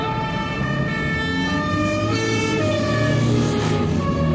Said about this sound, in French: Avec Jacques Chirac qui est ovationné, beaucoup de gens klaxonnent en voiture. Ils saluent les gens qui sont à la fois sur les trottoirs ou dans les voitures.